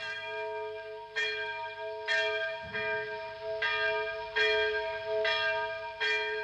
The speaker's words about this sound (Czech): Byl velice vlahý letní večer. Hlas zvonu tiše táhl nad rybníky a kde z vdálce zanikal.